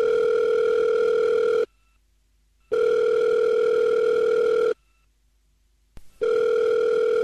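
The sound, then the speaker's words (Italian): A loud telephone ringing tone sounds alone in long steady beeps, about three bursts separated by short silences, with no voices, before a phone call presented as an intercepted call from Pope Francis. “Grazie alla talpa abbiamo intercettato le telefonate quelle di Papa Francesco.”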